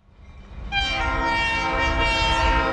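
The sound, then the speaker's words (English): A Mexican freight train's horn blares loud and sustained over the heavy rumble of the passing train at the railway siding at Tultitlan, on the edge of Mexico City, building up within the first second and holding steady with no one talking. “NPR's Lourdes Garcia Navarro spent time with four migrants as they waited to hop a Mexican train heading north.”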